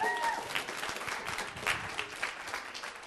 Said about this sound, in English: A round of applause for the lady herself